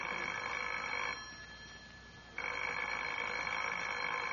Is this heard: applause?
no